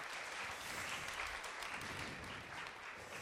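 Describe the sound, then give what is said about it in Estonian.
An audience claps steadily for two volunteers throughout, a dense, even wash of many hands at a moderate level with no pauses and no voices on top. “Teeme neile ühe aplausi, nemad on meie vabatahtlikud.”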